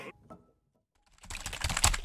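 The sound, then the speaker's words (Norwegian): A few soft taps, then a short silence, followed by a rapid, loud burst of clattering keystrokes as someone types quickly on a keyboard, noting down a reminder to listen to Umami on Radio Nova. “Hva er det du skriver ned?”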